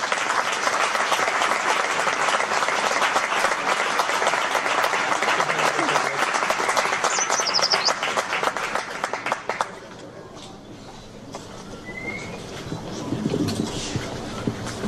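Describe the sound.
Loud, dense applause from a crowd for the pandonista of Santa Tecla 2014, a continuous crackle of many hands that holds steady for about ten seconds, then thins out as scattered voices and a few lingering claps remain.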